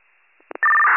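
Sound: dispatch paging tones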